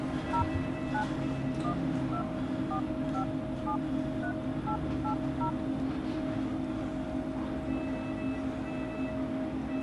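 A quick series of short electronic keypad tones, each a brief two-pitch beep, as a number is dialed on a borrowed mobile phone in a hospital in central Tehran, over a steady low hum of background noise.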